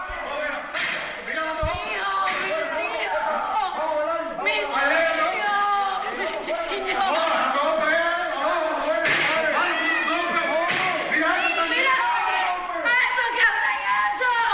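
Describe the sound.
A woman screams and children cry amid a chaotic jumble of overlapping, high-pitched voices that stays loud and continuous, with a sharp thud early on, as uniformed officers bang on the front door of a family home at Campiña 772 in Cárdenas, trying to break in.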